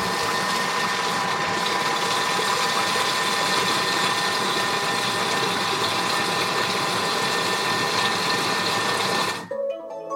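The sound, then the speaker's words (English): A kitchen robot whirs loudly and steadily as it mixes a filling for 10 seconds, a constant mechanical hum with a faint rattle, then cuts off abruptly near the end as its little robot arms come off. No one speaks. “It wants a little bit of scraping, and you could hear the little robot arms coming off there because it won't let you in.”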